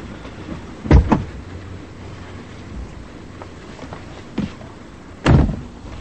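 The door of a black sedan clunks twice in quick succession as a woman gets in beside the driver, followed by a quiet stretch with a soft click, then the door shuts with a heavy, solid thump over a low steady rumble, at night on a dark side street.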